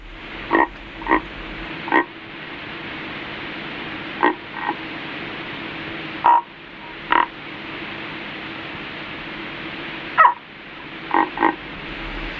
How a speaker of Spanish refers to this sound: Y por último, por poner un ejemplo de los sonidos, pues una rana muy de la península ibérica que tiene el mismo nombre, la rana ibérica.